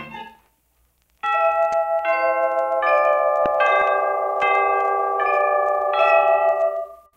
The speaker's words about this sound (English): The sound of the gong will indicate exactly 6:17 p.m. tick-tock time.